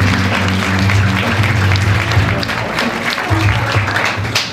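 An audience applauds steadily, a dense, even wash of many hands clapping at a loud level without pause, with a low murmur underneath and no clear speech.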